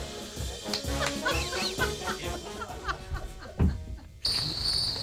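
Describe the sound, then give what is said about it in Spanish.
A shrill, steady cricket chirping cuts in near the end, loud, after several seconds of busy, clucking, chattering noise. “No me ponga los grillos que os estáis riendo ahí atrás.”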